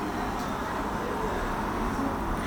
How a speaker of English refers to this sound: You can look out to the sea, and you can listen to the sounds, but at the moment, with the windows open, we've got quite a lot of traffic noise as we see the cars going past as they turn the corner at the top of Madeira Walk.